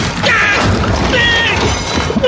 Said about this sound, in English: Actually, a car. Oh, my God, I hear a car coming. Oh! It knocked me over. The toilet is rolling. I'm going down the hill.